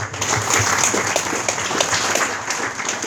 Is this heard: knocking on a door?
no